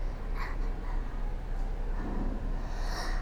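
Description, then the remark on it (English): A short sneeze, a quick nasal burst over a steady background hiss, with no talking around it. “Bless you.”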